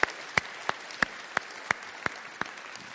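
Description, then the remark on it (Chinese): Steady, evenly spaced hand claps, about three per second, sharp and fairly faint against a quiet background, like sparse applause with no one talking, at a church worship service, clapping to encourage the young people's worship group. “让我哋今日咧一齐咧用一啲嘅掌声咧去鼓励我哋嘅年青人，亦多谢我哋嘅天父。”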